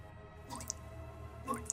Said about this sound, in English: The sound of dripping cut through the silence of the room, startling me. Was that what I could hear? Blood?